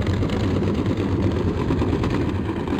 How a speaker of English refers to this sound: Sometimes it's really hard to be like, oh, that's ship traffic noise, because it's just general background from like several shipping lanes.